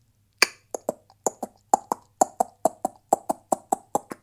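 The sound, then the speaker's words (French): Horse hoofbeats: a steady run of about eighteen crisp, hollow clip-clop knocks at a trotting pace, each sharp and ringing briefly, with no voices. “Des pas de cheval, évidemment.”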